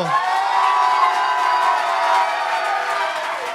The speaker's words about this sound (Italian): Piccolo problema tecnico, rifare 3, 2, 1, applauso. 94. Pazzesco, l'applauso più fragoroso.